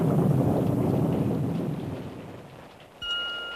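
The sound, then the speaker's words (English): A deep, loud rumble of thunder rolls and gradually fades over about three seconds, then a brief steady high tone begins abruptly. No one speaks. “Is the thunder gone? Well, that one is. It sounds so mad when it goes like that.”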